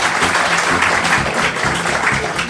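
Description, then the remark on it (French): Sustained applause from the audience in Blois, a dense, steady patter of many hands clapping at an even loudness throughout, with faint voices mixed in underneath. “C'était sous les applaudissements que j'essaye de réfréner du public de Blois, c'était Concordance des temps”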